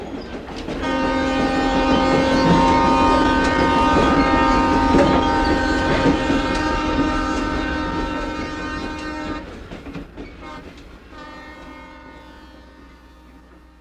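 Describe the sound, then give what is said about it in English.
An Alaska Railroad train rumbles past, sounding a long, loud chord-like horn blast for several seconds, then a second horn blast after a short pause as the clatter fades. “The Alaska Railroad summer season runs through mid-August.”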